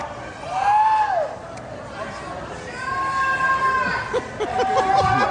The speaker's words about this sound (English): More people are yelling because he's not doing anything.